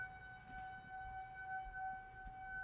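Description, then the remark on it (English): Outdoor tornado warning sirens wail faintly in a steady, sustained tone over low background rumble, with no one speaking. “We got a thunderstorm here, but no sirens yet, or sirens.”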